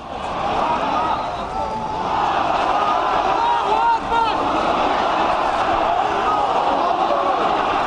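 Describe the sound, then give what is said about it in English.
A large crowd on the steps of a mosque shouts and chants together in an outburst of anger just after Friday prayers end. A dense, continuous roar of many voices, with overlapping cries rising above it, stays loud and sustained throughout. “So that's prayers just finished there now, and you can hear straight away the crowds on the steps of the mosques have begun shouting and raising their hands.”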